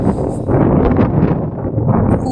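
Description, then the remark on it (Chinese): Strong wind on a windy winter day in northern China buffets a phone microphone held in front of the face, making a loud, continuous low rumble with gusty surges that never lets up. No one speaks. “其实我现在用手机打在脸的前面，然后说话的时候，你一定应该能够听到风声。”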